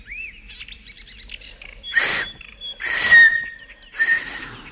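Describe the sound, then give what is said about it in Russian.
Three breathy, shrill blasts on a homemade whistle pipe carved with a knife, each a hissy rush of air around a steady high tone, following a few faint chirpy trills. No one speaks. “Хотите посвистеть? Извольте.”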